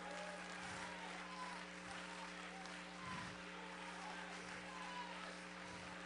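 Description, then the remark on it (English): A church audience stands and claps their hands, thanking God, in a steady, dense wash of applause that holds for several seconds, with a constant low electrical hum running beneath it and no voices standing out. “Oh, stand to your feet and clap your hands.”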